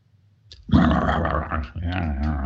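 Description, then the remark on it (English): A person growls loudly in a low, rough, sustained rumble that starts abruptly, dips briefly, then continues with strained, throaty texture, a human voice imitating an animal's snarl, during a guided exercise of tapping into negativity and anger. “You even let yourself make growling sounds if you want.”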